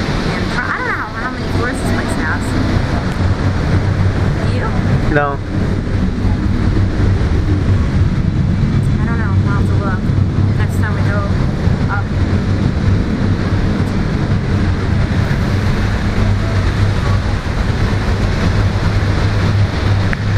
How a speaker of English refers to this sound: There's a plane.